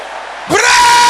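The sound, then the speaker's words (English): A large group of men at a prayer meeting suddenly erupts into a loud, sustained shout after a brief quieter moment, their voices blending into one roaring cry that holds steady to the end. “Brothers, let your voice roar like thunder.”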